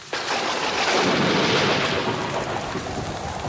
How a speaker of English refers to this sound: It started to drizzle. This is fun, said Mum, slapping a mosquito. Isn't it, said Dad. He was heating up some tins of baked beans. The drizzle turned into a downpour.